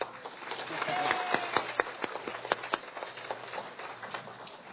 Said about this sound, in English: I know that many of us who have joined this weekend in this convention, and actually a celebration of humanity, I think, as I've seen it, really do take this opportunity to thank ourselves and give ourselves a big round of applause, I think.